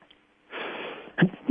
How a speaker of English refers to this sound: Excuse me. I've got to get my once-a-day sneeze in on here without a talkback cough button.